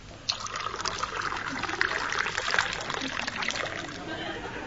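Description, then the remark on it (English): Gin is poured into a glass, a steady trickling splash that starts abruptly and runs continuously for several seconds at moderate loudness. “Well, more gin and not so much water with it this time.”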